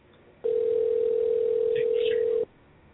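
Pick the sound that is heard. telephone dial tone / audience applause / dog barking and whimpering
telephone dial tone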